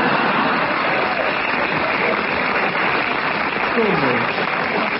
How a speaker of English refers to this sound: If only comedians in the old days knew that's all you had to say to get a round of applause. Fly Fishing by J.R. Hartley.